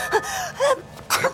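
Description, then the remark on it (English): Two quick, catching inhaled gasps build up to a single sharp, breathy sneeze, all fairly loud and heard on its own without any talking. “Bless you.”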